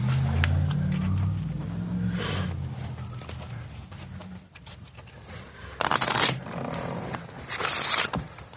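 A deck of playing cards being shuffled: quiet rustling and handling, then loud crisp riffle bursts near the end, over a low background rumble and no talking.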